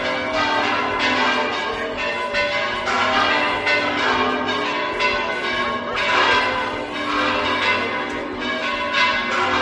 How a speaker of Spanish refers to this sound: Así replicaban las campanas del Real Monasterio.